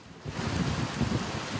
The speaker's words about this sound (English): A new day, and the rain's pouring down on the streets of Aleppo.